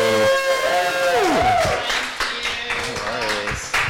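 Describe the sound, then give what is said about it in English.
An audience at a comedy show claps steadily for a few seconds as a comedian is welcomed to the stage, the dense patter of hands running under a loud, gliding tonal sound like music or a sung voice. “Keep clapping, fuckers.”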